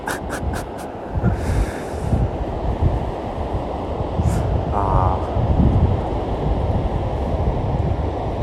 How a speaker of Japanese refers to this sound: 3月の海ですからね。ちょっと風が強くて寒いですけど、何人か浜辺で走ってる人いますね。